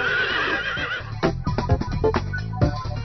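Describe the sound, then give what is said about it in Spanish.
A horse whinnies with a shrill, wavering call, then snorts and stamps in a string of short, uneven thuds. It is fairly loud, and there is no talking. “¿Cuál es el animal que tiene silla y no se puede sentar? El caballo.”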